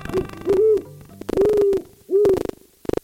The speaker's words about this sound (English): And while some, like this great horned owl, do go hoot in the night, the natural diversity of our 19 defy stereotypes.